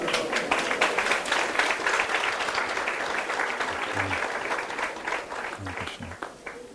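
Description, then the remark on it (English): An audience claps steadily as flower garlands are presented to the relatives, a dense, fairly loud patter of many hands that keeps going for several seconds, with a few faint voices mixed in underneath toward the end. “You can clap for every garland, it's okay.”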